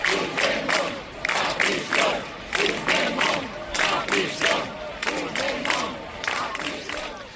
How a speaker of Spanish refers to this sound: Gritos en la Comunidad Valenciana que se escucharon como este.